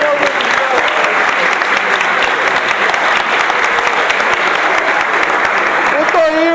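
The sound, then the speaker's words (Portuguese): A crowd applauds the samba composers, clapping steadily and loudly for several seconds, a dense wash of applause with a few cheers rising near the end. “Gente, vamos aplaudir os compositores”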